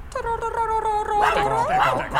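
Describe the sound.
Human voices imitate a dog in a Christmas nativity performance at an outdoor crèche in winter cold, starting with one long, steady whining yelp and then several voices joining in with overlapping rising and falling howl-like yips, fairly loud.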